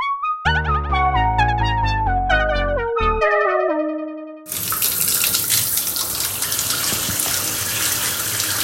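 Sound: shower water running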